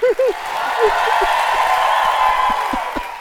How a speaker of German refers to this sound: Ich lass mal alle für dich klatschen.